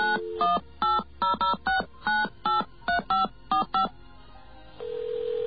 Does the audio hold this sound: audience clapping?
no